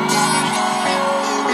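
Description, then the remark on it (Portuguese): A loud, sustained roar of a concert crowd in Recife shouting and whooping, with the band's held tones ringing underneath throughout the short burst. “Quem tá feliz, joga a mão e dá um grito, Recife!”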